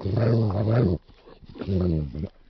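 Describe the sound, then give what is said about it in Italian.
Two loud bursts of angry dog growling, each about a second long, separated by a short pause filled with softer rumbling breaths; the dog circles just out of reach of a club, growling in frustration and anger. “Ne tentò di attaccare quando Sol Leaks fu riportato ancora una volta avanti, ma si mise a girare appena fuori dal raggio di azione del randello, ringhiando per la frustrazione e la rabbia.”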